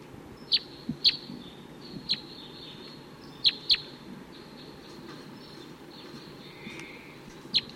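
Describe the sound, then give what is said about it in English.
Sharp, high calls of wild male birds ring out in scattered bursts, a few close together, over a steady outdoor hiss, coming from nearby treetops. “They're still around, calling from the nearby treetops.”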